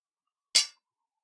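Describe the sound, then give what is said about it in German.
A single bright clink of glasses touching in a toast, sharp, ringing briefly before fading into silence. No one speaks. “Darauf sollten wir jetzt erstmal trinken, nämlich auf euch und die Liebe.”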